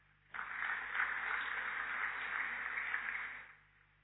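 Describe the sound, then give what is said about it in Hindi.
A crowd in a large Diamond Hall applauds steadily for about three seconds after a welcome, a dense, even patter of many hands that starts abruptly and fades out at the end. No one speaks. “आपके लिए ताली बजाओ।”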